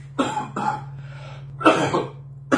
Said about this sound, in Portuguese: Perdoem. Se vocês tiverem paciência de suportar essa tosse, a gente vai até o fim, tá bom? Eu pedi desculpa já desde o início por isso mesmo.